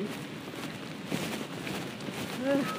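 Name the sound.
rain falling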